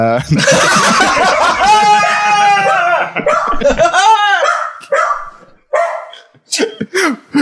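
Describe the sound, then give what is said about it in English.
A dog barks loudly at a delivery arriving, in a rapid, agitated series of sharp barks and yelps, with people's voices and some chuckling mixed in underneath. “That's why the dog went nuts.”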